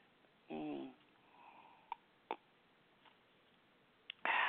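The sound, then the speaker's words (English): A radio call-in show host sips water on air: a short hummed voice sound, then a few sharp, faint gulping clicks spaced apart in near silence, ending with a louder breathy burst. “Let me get a little sip of water here.”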